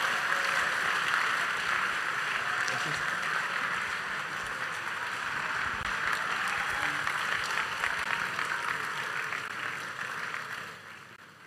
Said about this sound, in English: Please keep clapping, keep clapping.